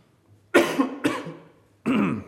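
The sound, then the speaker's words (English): Three loud coughs with harsh throat clearing, a pair in quick succession and then another after a short pause, heard alone without talk. “Excuse me, glad there's cough drops here.”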